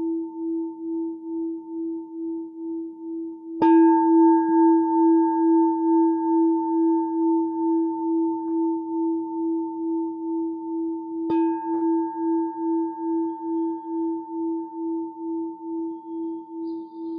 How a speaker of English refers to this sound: I'll invite the bell of mindfulness three times, and then we'll have a break for 5 minutes.